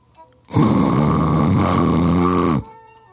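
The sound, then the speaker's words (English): A single loud, rasping snore from a dog rumbles for about two seconds, harsh, cutting off abruptly with quiet before and after. “I had sat quietly through all that mess, and now I let out a big old loud snore.”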